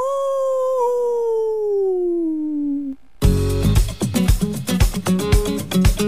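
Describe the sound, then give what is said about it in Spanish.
A werewolf howl: a single long, mournful note that slowly slides downward for about three seconds, then cuts off as loud, rhythmic music bursts in. “El hombre lobo. ¡Aú!”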